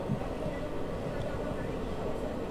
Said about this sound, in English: L train to 8th Avenue making all stops. Next stop on this train is Lorimer Avenue.